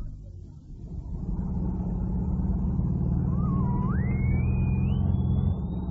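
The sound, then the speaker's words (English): A car engine drones with a steady, deep rumble as it drives, and partway through a thin whine climbs steadily higher in pitch. No one speaks. “No, let's get back into the car. Yeah. I love driving with you.”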